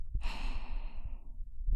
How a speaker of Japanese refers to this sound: お兄さんが寝るまでずっとこうして見守っていてあげるからね。お姉さんの吐息に包まれながら寝ちゃってね。